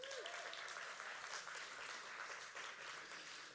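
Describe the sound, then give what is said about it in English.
An audience applauds steadily for a few seconds to show they liked a 9-year-old girl's ukulele playing and singing on Saturday, a dense wash of many hands clapping at once with no clear rhythm, holding an even, moderate level throughout. “If you liked it, clap.”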